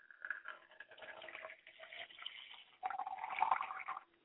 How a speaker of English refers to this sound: I like to pour libations to the east, and I say, I say. From where our help comes, I say.